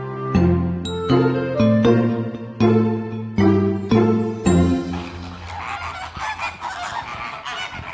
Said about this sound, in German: Eines der typischsten Geräusche in Hellabrunn und jeder weiß, wo wir sind. Genau, die begrüßen einen am Flamingo-Eingang schon ganz herzlich, unsere Flamingos.